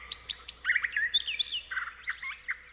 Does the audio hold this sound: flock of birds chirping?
yes